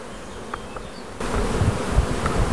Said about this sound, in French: Et voilà, les abeilles au travail.